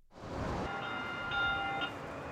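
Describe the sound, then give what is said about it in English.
A Valley Metro light rail train rolls steadily along the tracks with a continuous rumbling hum and faint high metallic squeals from the wheels, fairly loud, with no talking. “Today, we step into a day on the job driving a light rail train.”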